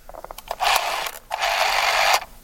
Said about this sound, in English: That's a telephone. That is correct. That's the old, yeah, okay, yeah. The old rotor. Yeah, rotary phone. Oh, very good. That's a rotary telephone.